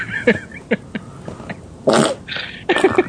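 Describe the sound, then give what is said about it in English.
A rapid series of farting noises, several short sputtering bursts followed by longer, louder raspy blasts, prominent with no talking. “Just hear all this farting and dude.”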